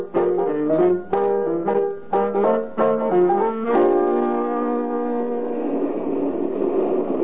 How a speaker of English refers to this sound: Oh, here comes the bus. Well, thank goodness.